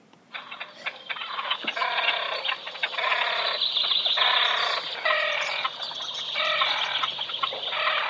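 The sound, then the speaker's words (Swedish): A great crested grebe gives harsh, rapid, rattling calls in a steady rhythm, loud and continuous for several seconds with brief pauses, and no talking. “Gärna kvällskvisten tycker de om att skrika. Skäggdopping.”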